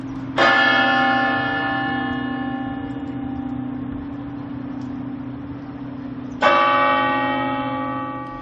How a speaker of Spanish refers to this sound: Así han sonado a las 9 de la mañana, esta mañana, las campanas de todas las iglesias de Madrid, que no olvidan a las 193 personas que perdieron la vida tras una sucesión de bombas que explosionaron simultáneamente en distintos trenes.